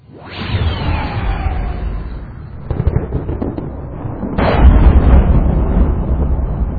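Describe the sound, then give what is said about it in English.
A sharp crash of thunder slams over a crater floor as lightning blazes overhead in a strange storm, opening into a heavy, roaring rumble, then a second, louder crack surges midway and rolls on with deep, sustained booming. No voices are heard. “Lightning blazed overhead, and thunder slammed the crater floor hard enough to shake the ground.”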